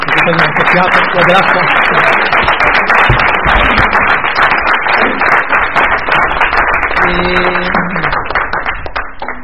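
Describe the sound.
Sustained, loud applause from an audience, a dense patter of many hands clapping for about nine seconds, with some voices mixed in and a slight fade toward the end.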